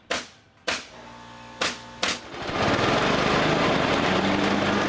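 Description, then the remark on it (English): Four sharp pneumatic nail gun shots pop in an uneven sequence, then a lawnmower engine starts up and drones steadily and loudly, with no voices. “Nail guns, lawnmowers, and ladders all can lead to emergency room visits.”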